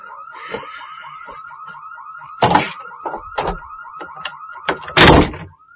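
A fire alarm wails with a fast, steady electronic warble that never lets up, while several loud bangs and thuds, like doors slamming, break through it. No one speaks.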